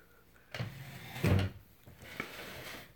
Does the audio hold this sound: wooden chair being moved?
yes